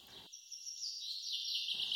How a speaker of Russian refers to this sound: Я проснулась от оглушительного щебета птиц и больше уснуть не могла.